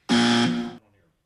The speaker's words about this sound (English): Is that it? That's it? That was the buzzer?